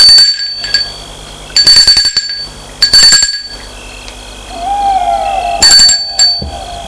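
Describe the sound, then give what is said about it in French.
A doorbell at the entrance of a château rings four times in short, bright, ringing bursts spaced a second or two apart, fairly loud, with a brief faint hooting tone in between and no voices. “Ils ont sonné.”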